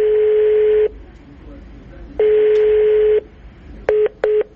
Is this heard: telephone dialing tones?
yes